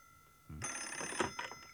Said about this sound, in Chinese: 他刚要转身往回走，那电话铃又响了起来。